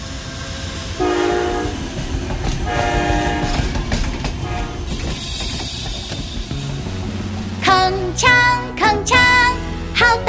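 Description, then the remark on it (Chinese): A train rumbles steadily along the tracks while its horn sounds, first a long blast early on, then several short, loud honks in quick succession near the end. “声响，小火车身体长，奔向前到远方，载着爷爷载着奶奶来到我身旁，铿锵铿锵，好大的声响，小火车身体长，奔向前到远方”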